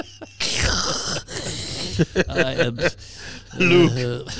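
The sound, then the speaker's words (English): A voice imitates Darth Vader's heavy, mechanical respirator breathing, likened to using a CPAP machine: loud, hissing inhales and exhales repeated in a slow rhythm, mixed with some voiced groaning sounds. “You pretend you're the Elephant Man. Yeah. Or Darth Vader.”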